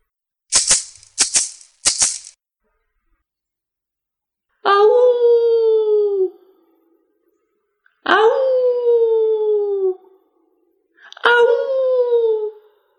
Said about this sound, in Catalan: Un llop sorgí.